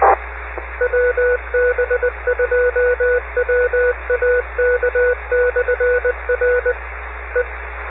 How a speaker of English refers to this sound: here goes the phone at 2WWM.